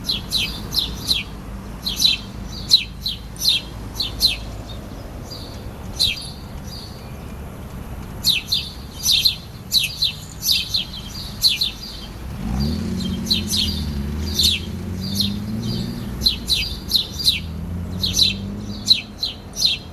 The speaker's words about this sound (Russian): Аккомпанемент, о котором говорила Агита Ансуле, птичье щебетание – это запись голосов наших латвийских птиц, которая звучит из динамика, установленного неподалеку от птичек.